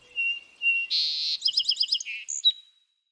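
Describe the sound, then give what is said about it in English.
A songbird sings a short, complex song: thin whistles, a buzzy burst, then a quick series of repeated chirping notes ending in a high whistle, clear with no other sounds. “Then it starts putting the elements together, and eventually it's doing a song very much like what it had heard the previous summer.”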